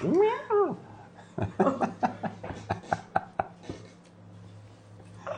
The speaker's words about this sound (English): Sudden cat noise.